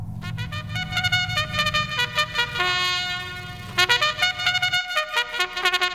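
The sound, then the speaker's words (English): Horns honking in a rapid series of loud, brassy blasts, some short and some held, with bright overlapping tones and no voices, played on Tampa Bay's Tan Talk Radio Network. “And you know what it means when you hear those horns?”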